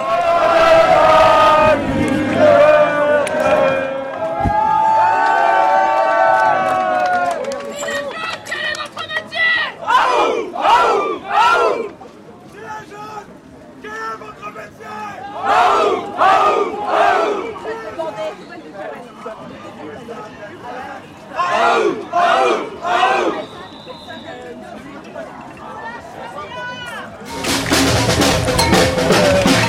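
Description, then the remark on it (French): A large protest crowd at a demonstration on Place d'Italie shouts the rallying chant "aou, aou, aou" in loud repeated bursts over constant crowd noise and scattered voices, as police begin firing the first tear gas, ending in a roar of noise. “Aou, aou, aou. Et qui est souvent utilisé en manifestation comme un signe de ralliement, d'encouragement combatif et joyeux.”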